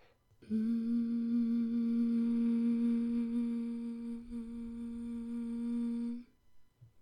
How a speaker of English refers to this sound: Could you hum for me? Like this?